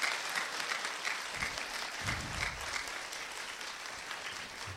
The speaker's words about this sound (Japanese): いろいろな証言をもとにお話をしていただきました。どうぞ今一度大きな拍手をお送りくださいませ。